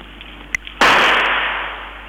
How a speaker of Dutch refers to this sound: Dan worden wat rotjes afgestoken.